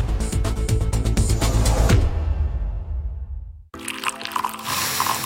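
Coffee is poured into a cup, a steady splashing stream that tapers off, then a brief pause before more bright, splashy pouring resumes. No one speaks.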